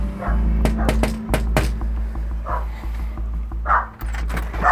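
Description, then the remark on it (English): A dog named Booker barks and yips at the door of a semi-detached house in Thompson, in short bursts, a few sharp sounds early on and then scattered higher yelps, all over a steady low hum with no clear talk. “What's your dog's name?”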